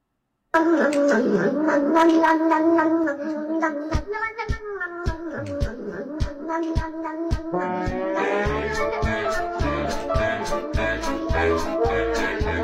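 A violin ensemble, a TikTok violinist, plays the viral meme song, a catchy, bouncy tune: sustained bowed melody at first, then joined by a steady plucked or percussive beat that keeps a lively rhythm throughout. Fairly loud, with no talking.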